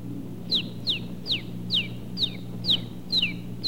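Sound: one-day-old rooster chick peeping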